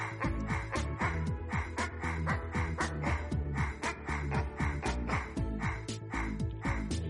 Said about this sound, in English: Wait, where's the barking at? Oh, there we go. This is the best part.